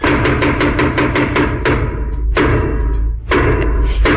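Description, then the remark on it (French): A rapid roll of wooden knocks on a theatre stage floor, then slow, heavy, booming thuds spaced about a second apart: the traditional French theatre knocks, 'les trois coups', signalling the play is about to begin. No one speaks. “C'est les trois coups pour t'annoncer que la pièce va commencer.”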